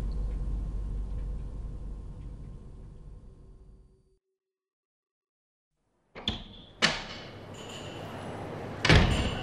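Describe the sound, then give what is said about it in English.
A low hum fades into silence, then a sliding door in a spaceport opens with a sharp mechanical clunk, a hissing rush and a second loud clank near the end, fairly loud. “The door is open.”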